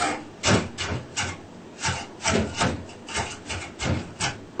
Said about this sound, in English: The vegetable will not be spraying all over. Just stay there and be chopped fine.